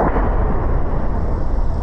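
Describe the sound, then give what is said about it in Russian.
A heavy aerial bomb explosion on the Avdiivka front in Ukraine, fairly far from Ukrainian artillery positions, rolls through as a loud, deep rumble that fills the whole moment without fading, a dense low roar with no voices. “Так звучат авиабомбы на Авдеевском направлении.”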